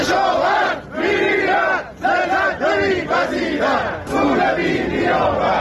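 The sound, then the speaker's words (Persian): A large crowd of farmers from east and west Isfahan chants loudly in unison at a protest gathering in the town of Chadegan, Iran, over their water rights from the drying Zayandeh Rud river; rhythmic rising and falling phrases repeated in bursts with brief pauses, voices merging into a dense, forceful roar. “بنابر گزارش‌های منتشر شده در شبکه‌های اجتماعی، کشاورزان شرق و غرب اصفهان در اعتراض به واگذاری حقابه خود از زاینده رود و خشکی این رودخانه روز شنبه در شهر چادگان تجمع کردند.”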